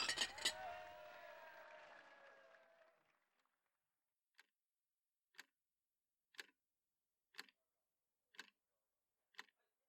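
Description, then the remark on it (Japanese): Glasses clink together once in a toast at an office drinking party celebrating top sales results, with a bright ring that lingers and fades over a few seconds, then a quiet, steady ticking follows at roughly one-second intervals with no voices. “明日は休みなので、今日はとことん飲んじゃってください。それでは、乾杯！”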